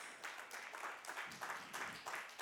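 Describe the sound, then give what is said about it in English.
Tithers in a church audience clap in a steady, dense burst of applause during a sermon about giving, many hands overlapping into a continuous crackling roar that holds at an even, fairly loud level throughout, with no voices above it. “The tithers are clapping right now, just saying.”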